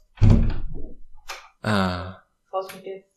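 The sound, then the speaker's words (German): A door thunks and clicks as it is opened to let a tomcat out, with a short scrape in the middle, while harmonic, voice-like sounds come and go in three bursts around it. “So, jetzt muss ich meinen Kater tatsächlich rauslassen, dann gib mir mal.”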